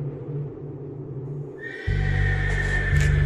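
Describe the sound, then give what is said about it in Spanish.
A horse neighs loudly, a long shrill whinny that rises and holds with a rough, buzzing tone, with no voices around it. “De madrugada se escuchó un relinchido, pero no venía de las caballerizas, sino cerca de los dormitorios, en los oscuros pasillos de la casa de la hacienda, que dadas las circunstancias, se hallaba convertida en una base militar.”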